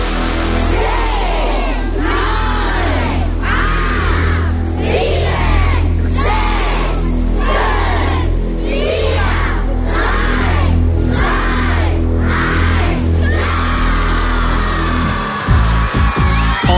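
Schoolchildren of the Grundschule Bad Mergentheim shout a countdown in unison live on the Radioton morning show, about ten evenly spaced loud calls, then break into sustained cheering. A steady low engine drone runs underneath throughout.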